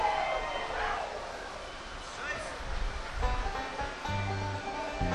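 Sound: rain falling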